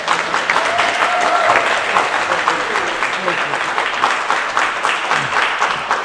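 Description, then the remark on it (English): An audience in Castlemaine claps steadily for several seconds to welcome a speaker, a dense, loud wash of many hands with a few brief tonal murmurs or voices faintly mixed in. “Can you give him a huge round of applause and welcome to Castlemaine?”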